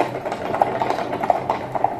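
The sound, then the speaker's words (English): Horse hooves clip-clop in an uneven, stumbling rhythm, a series of sharp mid-pitched knocks at moderate loudness over a steady background hum, with no voices. “But it's kind of funny, because it sounds like a bunch of drunken horses, so I thought it was kind of cute.”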